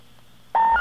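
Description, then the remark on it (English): A telephone number being dialed with a zero put in front of it: faint line hum, then a single loud, steady touch-tone beep starts halfway through and holds to the end, with no voices. “This time I put a zero in front of it to see if that might make a difference.”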